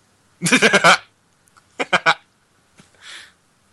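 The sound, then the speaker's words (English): A motion-sensor toy frog croaks: a loud, raspy run of about five quick pulses, then a shorter burst of three, followed by a softer hissing rasp. No voices. “that was apparently a motion sensor frog.”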